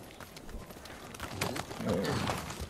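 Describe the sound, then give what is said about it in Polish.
Horse hooves clip-clop in an uneven patter, growing louder as the animal draws nearer, with a brief vocal-like sound near the end. “Gdzie jest mój koń? Koniu! Do mnie!”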